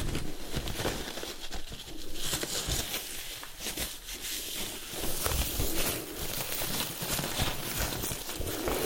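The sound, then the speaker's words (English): A face mask is peeled off a person's face, giving a steady run of crinkly, papery rustles and soft sticky pops that continue throughout with no one speaking. “First, we will remove the mask on your face.”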